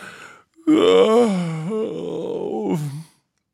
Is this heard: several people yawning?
yes